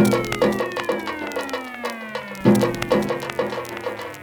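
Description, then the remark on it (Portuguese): A cat meows in two long, drawn-out calls that slide downward in pitch, fairly loud over a steady pattern of light tapping and clicking. “Outro gato.”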